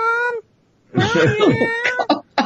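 A cat yowls eerily: a short, steady wail, a brief pause, then a longer, wavering, drawn-out cry that breaks into choppy bursts at the end.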